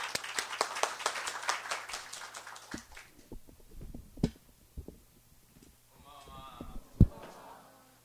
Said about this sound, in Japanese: 送ってくださった主に期待して拍手を持ってお迎えしましょう。